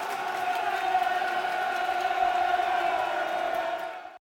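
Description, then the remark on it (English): A large football stadium crowd roars and cheers a sliding tackle in one sustained, swelling wave of voices, fairly loud, holding steady for several seconds before cutting off abruptly. “Oh, great sliding tackle there by George Honeyman. Crowd love that.”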